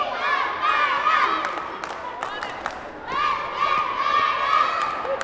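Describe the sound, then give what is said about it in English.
A young cheer squad cheers and roars together at halftime on a basketball court, throwing back their heads like lions, in a sustained, loud chorus with rising shouted calls and echoing crowd noise. “At one point, they throw back their heads like lions and roar.”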